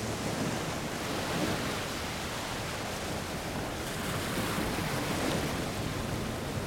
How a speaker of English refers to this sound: wades through the water.